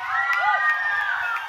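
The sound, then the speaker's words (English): An audience at a Mountaineer series music show claps and cheers loudly, with whoops and high voices rising over steady applause that fills the whole moment without letting up. “Hey guys, can we give a round of applause to … here?”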